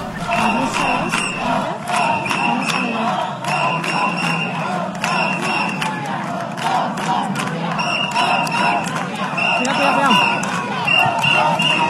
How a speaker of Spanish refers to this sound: Afuera le esperaba un grupo de manifestantes con pancartas y gritos de recriminación hacia su comportamiento. Escuchamos parte del ambiente.